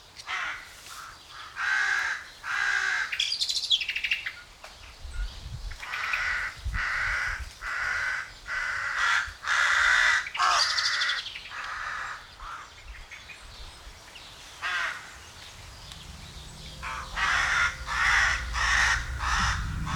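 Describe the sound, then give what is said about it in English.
Several crows in a patch of forest in Denmark caw harshly and repeatedly at the person recording, their loud calls overlapping in bursts with brief pauses, over a quiet background with low rumbles near the end. “It's a collection of little things that I want to give to you, like this recording that I made recently of some Danish crows squawking at me for being in their little patch of forest.”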